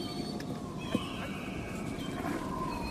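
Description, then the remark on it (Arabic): Camels grunt and moan in drawn-out, wavering calls, with a steady outdoor rumble underneath and a brief knock near the start. No one speaks. “شو عندكم بوش ولا غنم؟ بوش ها؟”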